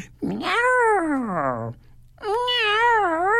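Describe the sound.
Two long, drawn-out, loud cat meows: the first rises and slowly slides down, and after a short pause a second, wavering meow holds steady to the end.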